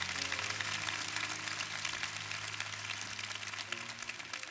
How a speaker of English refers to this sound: Give these three handsome men a hand clap. Love you.